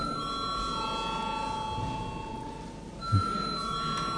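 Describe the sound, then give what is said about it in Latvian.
The electric voting bell of the Latvian parliament, the Saeima, rings before a vote on confirming a deputy's mandate. It rings continuously in a steady, high metallic tone, briefly fading before resuming, with a soft thump partway through and no speech. “Lūdzu zvanu.”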